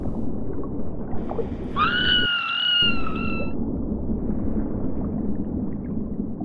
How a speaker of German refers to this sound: Sie tauchte unter und was sie da entdeckte, ließ sie in Panik schreien.